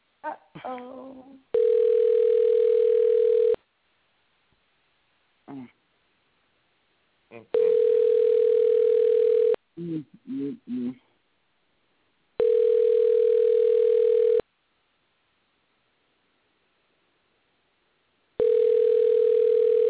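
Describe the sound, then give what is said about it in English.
Telephone ringing unanswered over the line: a steady, buzzy mid-pitched ringback tone repeats in four long bursts separated by pauses, with brief muffled voices in some of the gaps. “I ain't never heard nobody's phone ring this long.”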